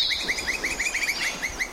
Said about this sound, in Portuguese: Pica-pau do campo.